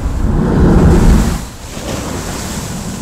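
A heavy surge of seawater roars up through a gap in the rocks of a coastal blowhole near Haleakala volcano, booming loudly for about a second before draining away into a steady wash of surf and wind. No one speaks.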